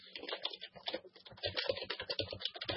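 Rapid, uneven typing on a computer keyboard, a steady stream of crisp key clicks with no one speaking.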